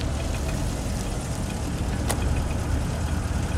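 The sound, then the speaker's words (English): A car engine idles steadily with a low, continuous rumble, fairly loud, with a single brief click partway through. The car is being parked outside a house among patrol cars, court cars and water company vans. No voices are present. “They finally make it to the cousins' house and park their car as best as they can between the patrol cars, the court cars, and the water company vans.”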